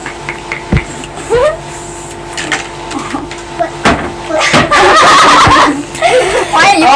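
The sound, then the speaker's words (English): Someone imitates a frog with their voice: irregular croaky, gurgling bursts mixed with sharp clicks and warbling squeaks, growing louder and busier toward the end. “That's the frog. That sound made by frog.”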